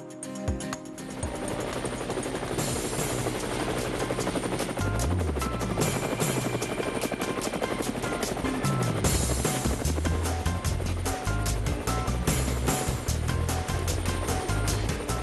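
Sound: helicopter flying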